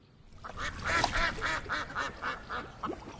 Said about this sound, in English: Shall we feed the ducks?